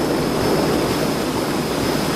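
Steady, rushing wash of water splashing and churning, like waves breaking against a moving hull, loud and continuous throughout with no pauses and no voices.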